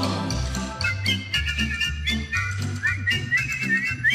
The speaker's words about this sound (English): Dat fluiten ben ik nooit zo goed in geweest.